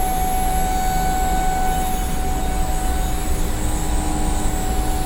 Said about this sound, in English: So the pumps you can hear, that's a turbo pump on one of our vacuum chambers, and we actually have a thruster in there firing right now.